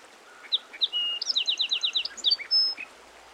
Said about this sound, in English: The song sparrow actually has several different songs. Let's listen for them.